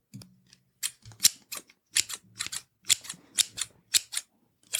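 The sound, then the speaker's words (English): Scissors snip hair on the top of a person's head during a haircut, a steady series of about a dozen crisp cuts, each a sharp metallic shearing sound, with brief pauses between quick pairs of snips. “Let's do the top with scissors.”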